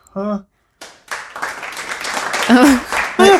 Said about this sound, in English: That's like a golf clap.